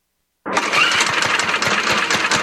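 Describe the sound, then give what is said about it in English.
After a brief silence, a small lawn mower engine abruptly sputters to life and keeps running loud, with a rough, uneven chugging rhythm as it struggles to start. “The ethanol in our gasoline can gum up the fuel system, making them run rough, if you can even get them started.”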